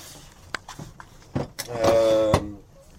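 A few soft clicks and knocks, then the last navigation drawer, holding nautical instructions and navigation documents, slides open with a brief, squeaky tonal scrape that ends in a sharp thud. No one speaks.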